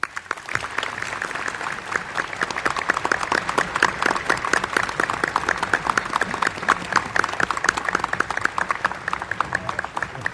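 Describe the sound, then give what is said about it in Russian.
Sustained applause from a large audience at a ceremonial evening marking the centenary of the All-Russian Theatre Society and its award of the Order of the Red Banner of Labour. A dense, steady wash of many hands clapping at a constant loud level for the full ten seconds, with no voices rising above it. “Товарищи, разрешите ваши аплодисменты считать единодушным одобрением текста приветственного слова.”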